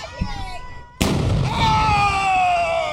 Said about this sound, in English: This guy's going to shoot a gun off.